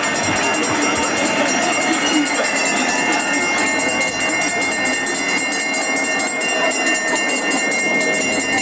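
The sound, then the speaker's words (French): A last-lap bell rings continuously and loudly at a Tour de France stage as riders cross the finish line with about 6.8 km to go, its bright metallic clanging sustained over a steady roar of cheering crowd noise. “Ils vont se relever, être rattrapés par Luke Rowe juste au moment justement où la cloche va sonner. Allez, on vous propose de l'écouter cette cloche.”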